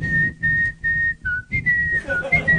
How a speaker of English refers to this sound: It's got Darth Vader walking a tiny, what are those things called? Nerds! AT&T's, is that what they're called? At-ats. And when he's walking at it, he whistles to himself.